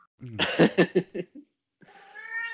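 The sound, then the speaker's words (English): A cat, Hamilton, meows loudly and insistently, a quick series of pulsing cries followed by a brief pause and a rising, drawn-out yowl, with no talking. “Sorry, that's Hamilton, the cat.”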